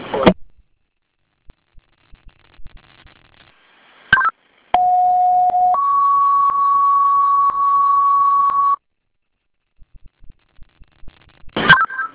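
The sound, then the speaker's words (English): Fire dispatch alert tones for Webster Fire, toned at 16:39: a short steady mid-pitched tone steps up to a longer, higher tone held for about three seconds, framed by bursts of radio static and squelch clicks, with no talking. “Time of tone 1639.”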